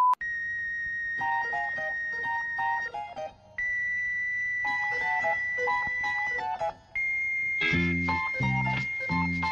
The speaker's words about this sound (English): When Lipton blows the whistle, you gotta have a cup of tea. Listen to the Lipton whistle.